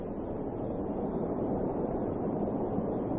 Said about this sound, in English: You hear that, sir? Sounds like a waterfall. We moved forward. The sound became a roar, and the river was partially obscured by the white spray of the water as it spilled down the face of the bluff.